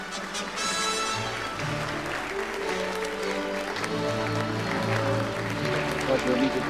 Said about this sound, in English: they walk through the applauding guests who surround them.